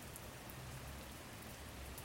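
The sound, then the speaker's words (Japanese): Steady rain patters on an umbrella overhead, a soft continuous drumming of many small drops, even throughout with no voices. “傘に弾ける雨音が優しいです。”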